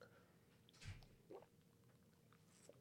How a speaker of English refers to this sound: I'm trying not to gulp in the microphone. Oh, I know, right? That was kind of spicy.